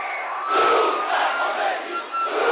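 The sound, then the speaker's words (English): A large crowd chants "Greetings to you, Khomeini" and cheers as it surges toward Khomeini. Many voices form a dense, continuous roar, loud throughout with surging swells and a brief dip near the end. “"Greetings to you, Khomeini," they chanted, surging toward him, desperate to touch the hand or robe of the holy man, or to have something, anything, touched and blessed by him.”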